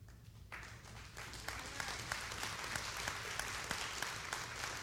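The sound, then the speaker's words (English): An audience at a morning service claps steadily, a dense wash of applause that swells after the first second and holds loud and even, with scattered sharper individual claps standing out. “I am so glad you clapped.”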